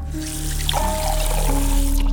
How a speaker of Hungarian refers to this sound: Tölt magának egy pohár vizet.